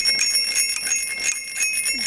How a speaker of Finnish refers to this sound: Mitä? Mikä ääni tämä oli? Pyörän kello.